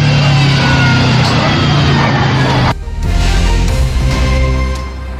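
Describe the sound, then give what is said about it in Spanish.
A car engine roars at maximum revs as its driver tries to escape, the CV joint audible in a loud, dense strained drone that drops abruptly partway through and then resumes at a lower, rougher pitch. “Ahí ustedes escuchaban la homocinética del vehículo a máxima revolución por minuto, el motor más que todo, para tratar de escapar.”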